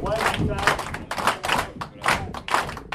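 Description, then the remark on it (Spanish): A group of inmates at a California corrections facility, formed in a circle by an instructor for warm-up exercises, stomps their feet to mark the rhythm and claps their hands along, the sharp claps and dull thuds repeating about twice a second, fairly loud. “Les dice que con sus pies marquen el ritmo. Después les pide que se acompañen con las manos.”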